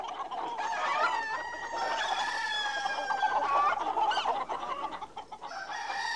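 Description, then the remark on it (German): Several chickens cluck and squawk continuously, with overlapping harmonic calls and a rooster-like crow rising now and then over the flock's chatter. “Eine Methode ist für die Hühner nicht ganz so günstig, denn ein Teil von ihnen bringt man um.”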